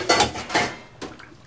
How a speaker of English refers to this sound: rinses a dish.